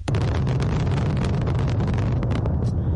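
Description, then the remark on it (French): A dense, loud barrage of fireworks set off at the National Stadium in Beijing for the opening of the 24th Winter Olympic Games, bursting in rapid succession, with booms and crackles overlapping into a continuous roar that never lets up, with no voices. “Des feux d'artifice tirés au stade national de Pékin lors du coup d'envoi de ces 24e Jeux d'hiver.”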